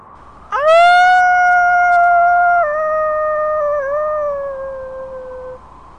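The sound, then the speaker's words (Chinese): A female wolf staggering toward a trap lets out a single long, piercing howl at the snowy sky. It rises sharply, then holds a steady, slightly wavering tone for about five seconds before fading, loud with no other sounds. “母狼蹒跚地走向陷阱，对着白雪纷飞的天空发出了刺耳长鸣。”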